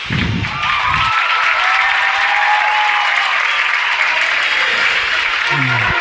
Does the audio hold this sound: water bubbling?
no